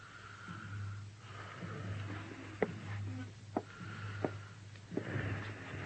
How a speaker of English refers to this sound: A nurse sat silently beside the bed. The only sound in the room was the hoarse, slow breathing of the wounded man.